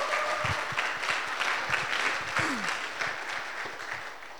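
Steady audience applause, a dense patter of many hands clapping at a fairly even level throughout, with a few sharper individual claps standing out and no talking over it.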